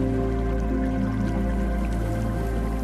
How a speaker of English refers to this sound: I would never imagine being in a place so arid as the Judean wilderness and then seeing a waterfall with a stream like this gurgling through. It's a beautiful place